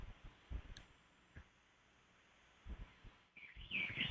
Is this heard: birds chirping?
yes